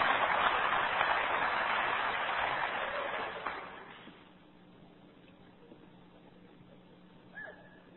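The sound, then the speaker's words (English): Light, scattered clapping from an audience fills the first few seconds, then thins out and stops, leaving quiet with a low hum and a faint stray sound near the end. “Oh, you don't want to applaud very well on that, do you?”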